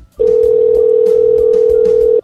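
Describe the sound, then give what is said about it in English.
A steady, loud telephone dial tone drones continuously for about two seconds after the caller hangs up and the line goes dead, with faint background murmur beneath it. “Oh, he hung up the phone.”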